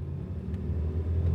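A car engine hums steadily with a deep, low rumble, continuous, heard from inside the car as it drives home. No voices.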